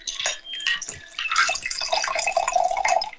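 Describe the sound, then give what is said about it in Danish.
A drink pours steadily into a chilled wine glass, a bubbly trickling stream with rising pitch as it fills, continuous for a few seconds with no talking. “Nå, men så har jeg fundet det dejlige afkølet vinglas frem, som vi lige hælder op i.”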